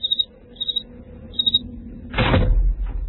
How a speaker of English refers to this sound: Open the door and listen.